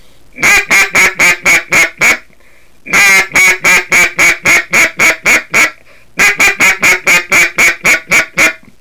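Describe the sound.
Three loud sequences of rapid quacks blown on a duck call, each a run of about seven to ten evenly spaced notes descending the scale in a cadence, separated by short pauses, with no talking.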